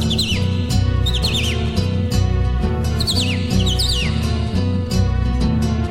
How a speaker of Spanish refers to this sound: Canta el cardenal.